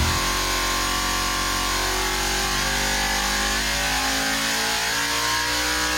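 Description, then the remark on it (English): A powerful car engine revs loudly and continuously, its throaty roar holding at high RPM with slight rises and dips in pitch, with no voices. “machine shop can build anything that you need under the hood, including the latest in CNC equipment and engine dyno testing facilities to really make your machine sing. I mean, if this isn't proof of what the boys can do, I don't know what is.”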